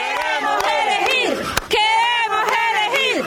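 rally crowd chanting

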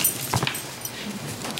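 small dog whimpering

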